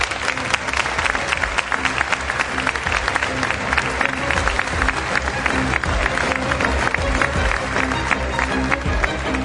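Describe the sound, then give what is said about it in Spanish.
Sustained audience applause at a library event in Tenerife fills the whole stretch, a dense steady wash of many hands clapping with no pauses, loud and even throughout. “Un aplauso.”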